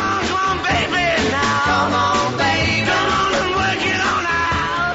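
An upbeat classic rock and roll song plays loudly and continuously, with shouted, energetic vocals over a driving band and a steady, bouncing beat.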